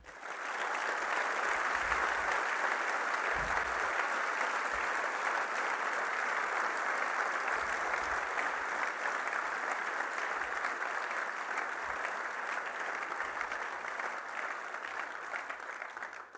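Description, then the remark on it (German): A crowd applauds steadily for about sixteen seconds, a dense wash of clapping hands that stays fairly even in loudness throughout and tapers only at the very end, with no voices on top. “Da dürft ihr klatschen.”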